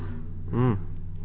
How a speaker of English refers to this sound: All right. There you go, folks. In case you want to know what some douchebag in a stock car sounds like.